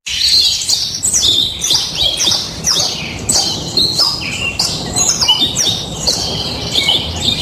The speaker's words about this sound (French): Alors effectivement, des oiseaux. Alors j'ai mis des oiseaux en cage. Au moins, c'est des oiseaux.